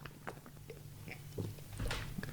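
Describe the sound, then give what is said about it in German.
Someone drinks a beverage with a few soft, wet gulps and swallowing clicks at an uneven pace, growing a little louder toward the end over a low steady hum. No one speaks. “Das war geil, wie du das gerade getrunken hast. Das hörte sich gut an.”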